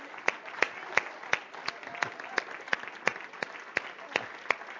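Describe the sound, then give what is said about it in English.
A crowd applauds steadily, with a dense wash of clapping and sharp, evenly spaced louder claps beating out a regular rhythm about three times a second throughout. “Come on, give him a great clap off.”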